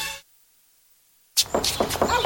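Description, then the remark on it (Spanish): After a stretch of silence, a quick series of sharp knocks on a door, four or five raps in a rapid, uneven rhythm. “¡La puerta! ¡Sí, yo voy! ¿Quién es?”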